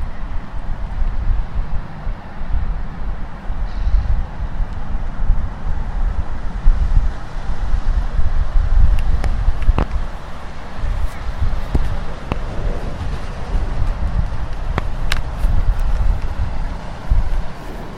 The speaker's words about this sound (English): Just listen to the sounds. It sounds as though there's a boat in the river.